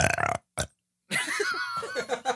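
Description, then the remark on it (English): A couple of short guttural bursts, a brief pause, then a long, drawn-out croaking belch, loud, with no talking. “… was supposed to join in, but he's belching right now.”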